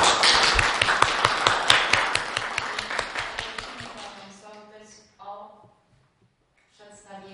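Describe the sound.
At a council meeting, a crowd bursts into loud, dense applause to congratulate the village head on a successful Independence Day event, many hands clapping together for about four seconds before the clapping thins and fades, giving way to people talking.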